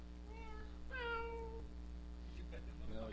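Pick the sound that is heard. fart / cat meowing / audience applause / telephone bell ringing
cat meowing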